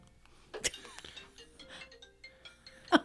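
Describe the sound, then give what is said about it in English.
A cell phone left behind by its owner rings, its ringtone playing a soft, stepping electronic melody, broken by a couple of sharp clicks or knocks near the start and end. “left his cell phone and he doesn't know it. So that's what that was, in case you're...”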